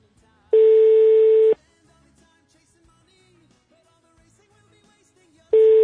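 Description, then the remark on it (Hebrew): A loud, steady telephone line tone sounds for about a second, falls silent for several seconds of faint room noise, then starts again, like a ringback on an unanswered call. “הוא לא עונה. יש לכם פתרונות. יש לך עוד טלפון?”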